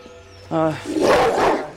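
A large dog lunging behind a fence barks loudly, a deep harmonic woof followed by a rough, growling bark, with a faint tone in the background before it.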